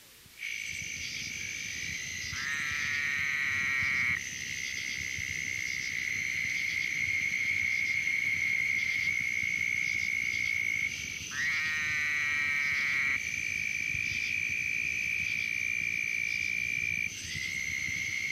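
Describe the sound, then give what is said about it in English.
A dense chorus of southern toads trills steadily throughout, while three short, buzzy nasal 'wah' calls of a Fowler's toad (Bufo woodhousei fowleri) break through at intervals, loud. “Heard here with a chorus of southern toads, the call of Fowler's toad is a nasal wah.”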